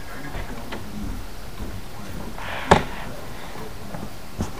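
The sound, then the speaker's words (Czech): A door latch clicks open once, a short sharp sound against steady hiss, followed later by a fainter knock as the door moves. No one speaks. “Zkusme fakt ty dveře otevřít.”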